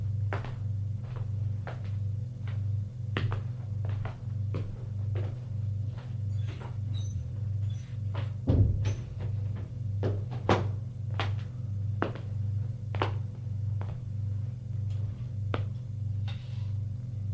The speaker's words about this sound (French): Ouvre la porte de son appartement et va dans sa chambre.